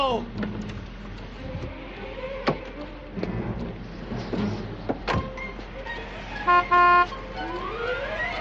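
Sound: car horn honking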